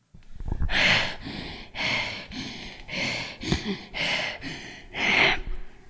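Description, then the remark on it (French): Heavy, rapid breathing of a woman out of breath from running all day while wearing a mask: six or seven loud, rushing breaths in a steady rhythm, with no talking. “Je suis essoufflée d'avoir couru toute la journée.”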